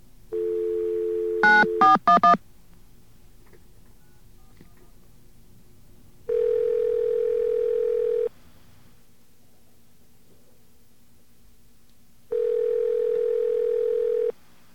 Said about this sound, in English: I should have to reconnect this line over here, and we'll try it one more time. I guess we'll ask for the same number. Let's get our dial tone.